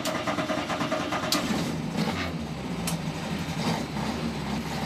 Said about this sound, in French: Et voilà, un petit moteur.